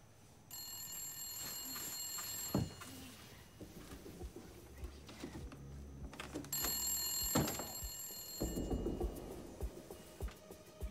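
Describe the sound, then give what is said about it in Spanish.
A telephone rings in two long, shrill bursts separated by a pause of a few seconds, clear, with faint background movement and rustling in between; a home telephone connected to a recorder, on the night of 24 June 1974. “Mientras se apresuró hacia el teléfono y la grabadora, esperaba al fin obtener algunas respuestas.”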